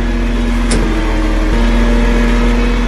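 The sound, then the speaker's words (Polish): A steady, low gas-powered vehicle engine idles, its smooth hum holding constant with a faint tonal drone and no voices, relatively quiet for a motor vehicle: 5 decibels quieter than a comparable diesel version. The vehicle is the first of its kind in Poland. “Słyszymy właśnie ten silnik. Silnik jest cichszy o 5 decybeli.”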